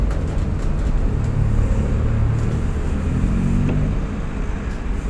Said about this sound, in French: C'est fou le nombre de camions. Vert. Bleu. Vert. Regardez les voitures sur l'autoroute alors qu'on est dans le train, c'est le bonheur.